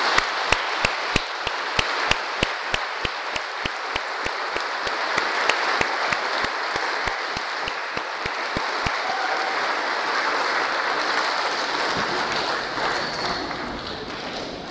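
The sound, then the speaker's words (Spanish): A crowd applauds steadily for about fifteen seconds for participants finishing a retreat, dense clapping with a few sharp rhythmic claps standing out early before the applause evens out and gradually thins. “Vamos a darles un gran aplauso por su retiro.”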